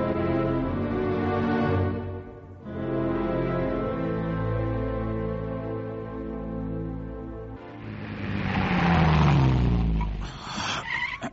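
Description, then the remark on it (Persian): A car engine revs loudly in two sustained bursts with a brief dip between, then gives way to a harsher, noisier roar near the end, like tires scrubbing. No one speaks. “چش، ماشینت از اون ماشینای کارگاهیه ها، ولی موتورش خیلی روبرو نیست.”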